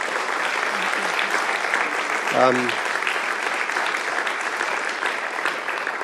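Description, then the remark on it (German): Dense, steady applause from an audience in Germany, thanking a visiting guest, fills the whole six seconds at an even loudness, with one brief voice or cheer rising above the clapping about halfway through. “Dein Applaus.”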